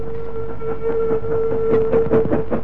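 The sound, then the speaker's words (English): A train leaving a tunnel rolls along with a steady, sustained whistle tone over a low rumble, and louder rhythmic clattering bursts build toward the end, loud. “As soon as the train left the tunnel, they pushed open the door”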